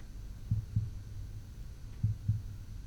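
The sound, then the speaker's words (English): Muffled, low heartbeat thumps of a person heard through the chest, two double beats in a steady lub-dub rhythm over a soft background hum. “Listen to my heartbeat.”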